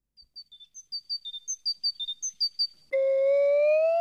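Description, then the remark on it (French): A small tit sings a quick series of bright, high whistled notes in a bouncy repeating pattern, clear, before a loud sustained musical tone abruptly takes over. “Ce petit oiseau qui chante, c'est une mésange.”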